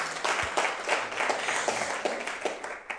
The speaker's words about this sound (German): Gib doch mal Jessica einen guten Applaus. Ich feiere sie so.